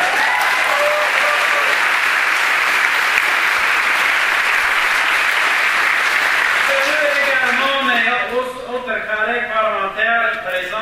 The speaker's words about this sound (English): And let's give them all once again a big round of applause for the job they all do.